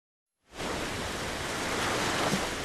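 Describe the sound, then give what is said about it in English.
Waves crash onto a lake beach during a surfing lesson, in a steady, hissing roar that starts abruptly after a brief silence and continues loud and unbroken, with a slight surge near the end. No voices. “Waves are crashing onto the beach as Andrew Jacobs gives a surfing lesson.”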